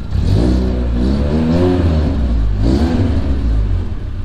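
car engine revving

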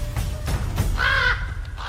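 ravens cawing

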